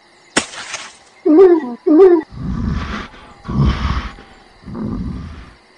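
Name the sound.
bear roaring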